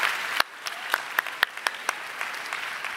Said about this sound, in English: So just go ahead and give yourselves a round of applause. You made it.